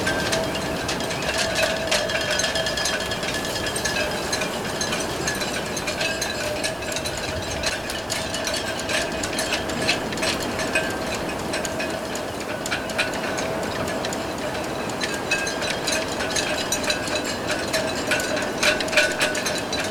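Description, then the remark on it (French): Dense metallic clinking and rattling of boat masts and rigging in a steady wind on an island, with a faint whistling hum running underneath, continuous throughout. “Que serait-ce une île sans le chant des mâts des bateaux?”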